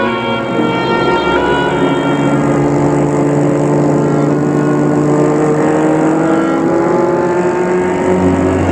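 A car drives steadily along the road on a trip to Normandy, France, its engine humming in a continuous, fairly loud drone with a slight rise in pitch as it gathers speed. No one speaks.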